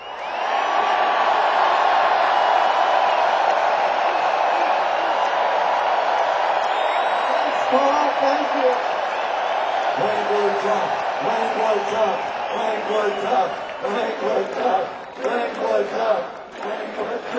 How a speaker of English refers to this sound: and what I want to do is I want to be able to play on this tape, and I want you guys to just do a big cheer for Paul.